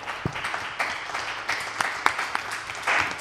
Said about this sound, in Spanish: Ostres, quin aplaudiment, eh?